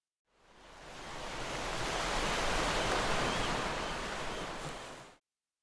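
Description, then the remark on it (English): A broad, steady wash of sea surf swells in, holds for several seconds, then fades out, like waves rolling onto a beach, with no voices. “The sea!”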